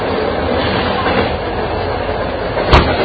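A passenger train with first- and second-class carriages rumbles steadily along the rails with a continuous low clatter, and a sharp metallic clack cuts through near the end. No one speaks.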